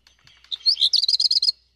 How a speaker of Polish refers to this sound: I teraz ta nuta. Jakby się coś popsuło. Faktycznie. I to jest taki charakterystyczny głosik właśnie kopciuszka. Niech sobie tam nam w tle świergoi.